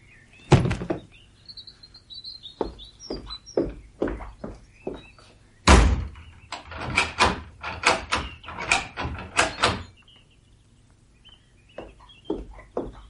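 A cellar door opens amid a rapid, irregular run of loud wooden thuds and rattling clacks, with faint high chirping tones drifting between the bursts. No one speaks.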